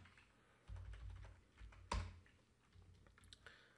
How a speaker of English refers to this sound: Sorry for the typing.